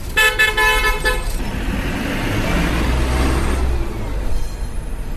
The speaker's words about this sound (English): Ukraine is poor, and the black smoke from ancient buses on the potholed streets of Odessa is only one sign of that.